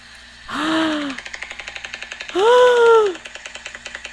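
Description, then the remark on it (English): A huge-billed bird, standing up and raising its head to the sky, gives a loud, rapid clattering, a steady run of sharp clicks like a machine gun, broken by two strong, low, moaning tonal bursts. “It just raised its head to the sky and made that crazy clicking sound.”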